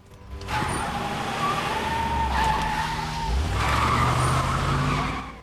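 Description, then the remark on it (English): A Jeep peels away from the curb with loud, sustained tire squealing and a revving engine, the screech rising and shifting in pitch as it accelerates, with no voices. “She jumps into her Jeep, parked at the curb, and speeds away.”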